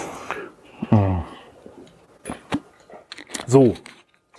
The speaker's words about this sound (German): Ich trinke kurz einen Schluck.